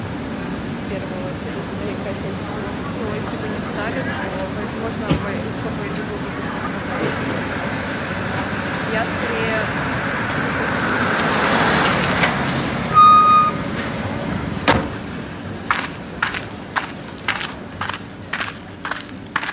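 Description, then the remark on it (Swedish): Dense, rumbling street traffic on a noisy street in Saint Petersburg, Russia, with engines and a swell of passing vehicles, a brief hiss like an air brake, then a run of sharp, evenly spaced clicks or knocks toward the end. “Hon parkerade bilen och klev ut på den bullriga gatan i Sankt Petersburg i Ryssland.”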